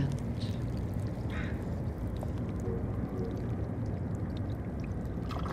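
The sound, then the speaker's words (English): Barnacles among seaweed click, trickle and suck as water moves calmly through crevices and they put out their fingers to feed, a dense, continuous crackle of tiny pops over a steady low rumble of roaring city noise. “It trickles and clicks and sucks.”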